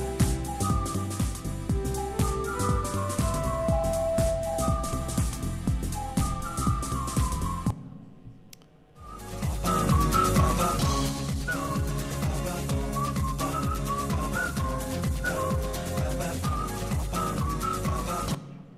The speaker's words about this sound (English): I'm going to listen to a little bit of Gentle House from 1991. This is ….